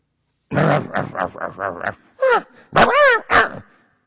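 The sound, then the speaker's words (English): A man's voice imitates a dog, starting with a string of muffled, grunting yaps, then three loud barks with rising and falling pitch, all without any normal speech. “So then, short time later, the dog comes back to the yogi.”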